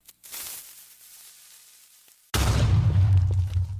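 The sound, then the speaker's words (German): A hissing, crackling fuse burns steadily for about two seconds, then a loud, rumbling explosion bursts in with deep low-end boom and debris noise, a generic explosion sound from the video game Minecraft. “Es brennt was und explodiert dann.”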